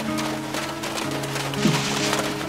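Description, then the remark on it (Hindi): Steady rain hisses without a break, a dense wash of noise that stays fairly loud throughout, with a faint low droning tone running beneath it. “अरे बारिश हो रही है”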